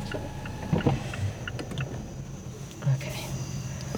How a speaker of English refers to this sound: Oh, yeah, there's crickets. That's really nice.